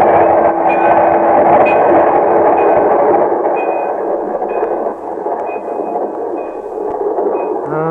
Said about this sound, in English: get off the track. Margie, quick, here it comes. The train.